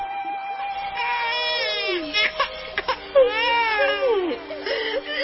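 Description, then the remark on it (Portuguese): A baby boy cries in drawn-out, wavering wails, each one sliding downward in pitch, with short catches of breath between them, lying in a basket among reeds by a river. The crying continues steadily throughout, with no other voices. “E viu um bebê chorando.”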